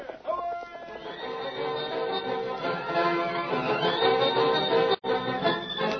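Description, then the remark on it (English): Galloping hoofbeats of Silver, the Lone Ranger's horse, with silver-shod hooves, pound rapidly beneath loud, continuous orchestral music, keeping a steady driving rhythm for several seconds before a brief break near the end. “Listen to those silver-shod hoofs.”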